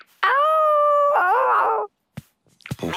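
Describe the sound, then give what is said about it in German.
A dog gives one long, loud howl, holding a steady note before wavering and breaking off, followed by a couple of short, scattered sounds. “Hallo, Hund. Wir suchen den Honigtopf.”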